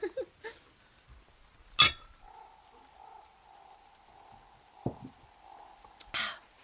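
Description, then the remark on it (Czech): A single bright clink of glasses with a short ringing tone, followed by a low steady hum and a few soft knocks, then another sharp clink near the end. No one speaks. “Ale skleničku před sebou mám, tak můžeme si věknout.”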